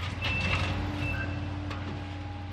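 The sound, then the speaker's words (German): Construction-site ambience as workers put up new buildings in Seestadt Aspern, Vienna, on the site of the former Vienna airport, with a steady low engine rumble and a few short, high electronic reversing beeps from a truck. “Bauarbeiter ziehen Neubauten in der Seestadt Aspern hoch.”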